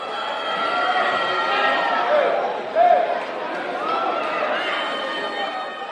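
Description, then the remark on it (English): A large crowd roars with loud, sustained booing, a dense wash of many voices that swells briefly near the middle and continues steadily throughout. “In the video, you can hear booing.”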